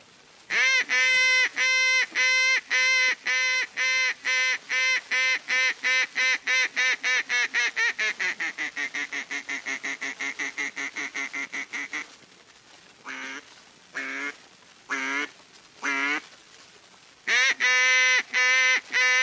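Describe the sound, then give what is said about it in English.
A duck call blown in a long, loud open-water highball sequence in the Bean Lake, Missouri style, of rapid harmonic quacks that descend and slow, followed by several spaced single quacks and a final fast burst, heard alone. “Here's duck calling is done in various parts of the country. The Bean Lake, Missouri open water highball.”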